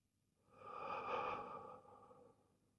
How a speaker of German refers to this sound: Jetzt verstärke ich meinen Atem. Und atme ganz tief in meinen Bauch hinein und ganz hoch in meinen Brustkorb und atme vollständig wieder aus.